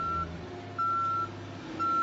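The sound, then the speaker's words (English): A cement truck's reversing alarm sounds three steady, high-pitched beeps at an even pace over the low rumble of the idling engine. “C, the sound of a cement truck backing up to pour the foundation for your new garage.”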